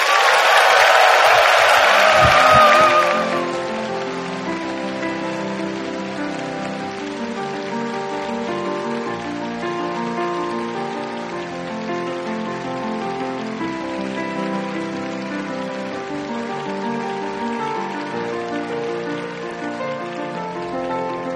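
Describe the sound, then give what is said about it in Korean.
A church audience bursts into loud applause mixed with cheering and shouts for a few seconds, welcoming a guest pastor to preach, then the noise cuts off and steady, sustained instrumental music carries on alone. “여러분 목사님 말씀을 들으며 기대하는 마음으로 큰 함성과 괴성과 박수로 목사님을 맞이하면 좋겠습니다.”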